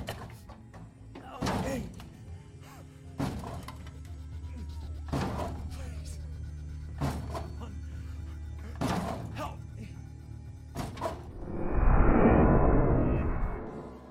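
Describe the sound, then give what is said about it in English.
A door is kicked again and again by a man with no way out, crawling and propped against the back wall, six heavy, evenly spaced thuds over a low steady hum, followed by a louder rushing, crumbling burst of noise at the end. “He crawled towards the doorway, propping himself against the back wall, and kicked at the door with the last remaining shreds of his strength.”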